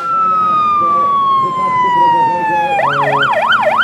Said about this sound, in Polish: Słyszymy sygnał do ewakuacji. Co powinniśmy zrobić? Jak najszybciej opuścić obiekt na zewnątrz.